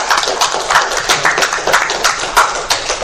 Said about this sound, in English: I had a round of applause for Soggy.